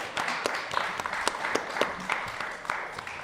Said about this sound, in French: Encore des applaudissements.